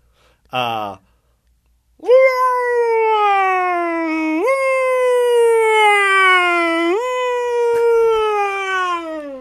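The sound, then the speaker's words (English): A voice imitates a US ambulance siren from Los Angeles. It opens with a short yelp and then holds a loud, steady wail that swoops up and down in pitch for several seconds, with no other sounds. “What about the U.S. ambulance?”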